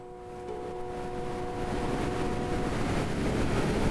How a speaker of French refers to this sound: En fait, il y a un deuxième bras de rivière. Et là, il y a encore des rapides, on les entend très fort.